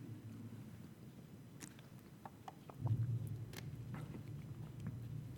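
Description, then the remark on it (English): Quiet sipping of water, a few soft wet clicks and gulps spread over several seconds against a low, steady background rumble, with no one speaking. “Having a sip of water is a must-do right now.”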